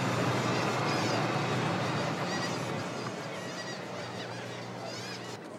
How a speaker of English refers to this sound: A lot of seagulls.